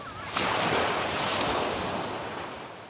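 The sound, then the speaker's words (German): Ocean waves wash steadily onto the beach at Playa de Palma, Mallorca, in the evening, a broad continuous rushing surf with one swell cresting early, mixed with some wind noise. No voices are present. “Da können die Wellen noch so meditativ rauschen.”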